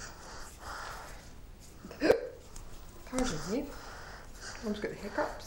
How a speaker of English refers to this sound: Pardon me. Mum's got the hiccups. Yes, the hiccups. Hiccups.